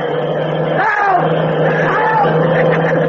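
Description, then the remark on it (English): A car engine drones loudly and steadily, its pitch rising in brief revving surges as it approaches, with a constant low hum and rushing noise throughout. “There's a car coming on your feet.”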